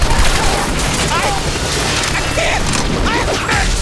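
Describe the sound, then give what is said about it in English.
A loud, sustained volley of gunfire roars without a break as Enforcers open fire, a dense wash of cracks and booms mixed with crashing and whooshing sounds, with indistinct voices faintly beneath the din. “Enforcers fell dead, riddled with bullet holes.”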